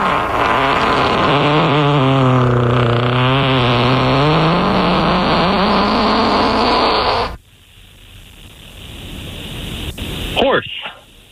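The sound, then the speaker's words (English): A long, loud human fart buzzes for several seconds with a low, wavering, bubbly pitch, then cuts off into near quiet before a short final sputter. “We are going to play you a fart.”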